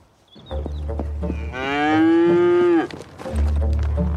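A cow lets out one long, loud moo lasting over a second, a rich harmonic bellow that holds steady then drops off, with low rumbling noise before and after.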